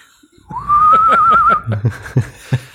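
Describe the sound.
A person whistles a single wavering, fairly loud note for about a second, followed by a few short breathy bursts that sound like stifled laughter.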